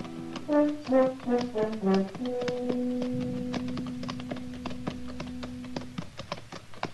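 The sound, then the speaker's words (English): Horses' hooves clip-clop as riders ride up the almost deserted main street of the town of El Cater at noon on a hot day, a steady, uneven patter of sharp knocks, while a few musical notes and then a long held tone play underneath. “It was noon of the second day when we rode up the almost deserted main street, hot, saddle-weary, hungry.”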